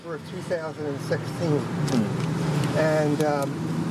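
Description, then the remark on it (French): A golf cart drives along in The Villages with a steady low motor hum running throughout, while a person talks over the continuous drone. “On commence ce podcast dans une voiture de golf.”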